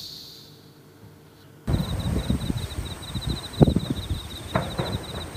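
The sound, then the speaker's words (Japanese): Distant fireworks thud a few times in summer against a busy outdoor bed of crunching and rustling footsteps on gravel over the stone paving of a nearby shrine, while bell crickets chirp in a steady pulsing trill throughout; a quieter stretch opens the scene. “花火聞こえる、これ。 ああ遠くの方で。”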